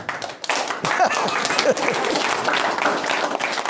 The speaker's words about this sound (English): So good for you all. Really, really impressive. You really ought to be applauding louder than that.